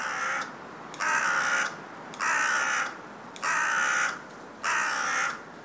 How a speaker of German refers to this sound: Begeben wir uns auf Spurensuche und schauen nach den Krähen, den kleinen Verwandten des imposanten und mächtig klugen Raben. Sie bewohnen seit Jahren vermehrt die Städte und stoßen dort nicht nur auf Gegenliebe.